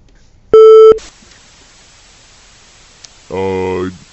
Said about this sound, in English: So we got another call, guys.